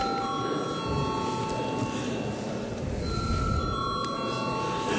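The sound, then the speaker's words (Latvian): A voting bell rings continuously and steadily for several seconds in the Latvian parliament (Saeima) to call a vote, a sustained metallic tone over low background murmur. “Paldies, lūdzu zvanu.”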